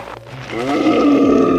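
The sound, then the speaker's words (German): A deep, menacing growl swells into a loud, drawn-out beastly roar, like a werewolf snarling, with no one speaking. “Ein Wolf! Ein menschlicher Wolf. Ein Werwolf.”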